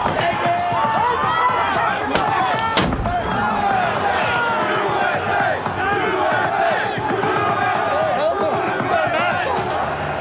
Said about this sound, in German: Im Kapitol der Vereinigten Staaten von Amerika tobt der Mob.